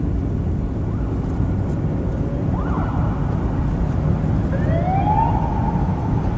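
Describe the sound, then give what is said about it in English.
A police car siren wails in rising and falling sweeps right behind the speaker's vehicle, growing clearer toward the end, over a steady, loud rumble of engine and road noise. No one speaks. “Funny enough, we've got the police right behind us.”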